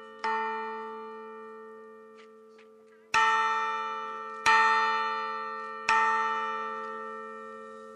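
A large new church bell is struck four times at uneven intervals by godparents ringing it for the first time, each strike loud with a rich, sustained metallic hum that slowly decays between hits.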